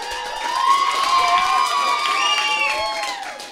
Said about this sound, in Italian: Intanto, grazie a tutti i DJ di Casa Oz che oggi hanno provato a rispondere ai nostri quesiti. Fatevi un applauso.